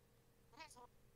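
A single short cat meow, brief and somewhat faint, rising then falling in pitch over a quiet background hum.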